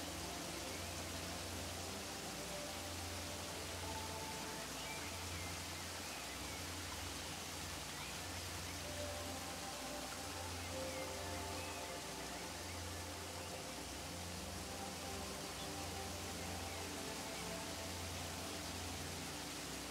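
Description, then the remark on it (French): A waterfall roars steadily for the whole stretch, a dense, unbroken wash of rushing water with low rumble beneath, even in loudness, with no voices. “Vous laissez le grondement de la chute d'eau vous débarrasser de vos soucis, de vos doutes, des pensées parasites qui vous envahissent parfois.”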